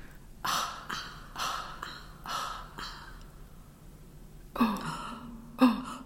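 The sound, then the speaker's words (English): Rhythmic, textured breathing in an Inuit throat-singing style: a steady pulse of raspy breaths, about one every second, with two louder, harsher vocal bursts toward the end. No talking. “It was inspired by this Inuit throat singing tradition, where it's a lot of breathing and textured breathing, so you sort of create a sound with your throat, and then it's passed back and forth, sometimes very quickly, between two people.”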